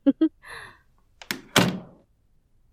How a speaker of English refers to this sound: Okay, yes. I'll shut the door behind me.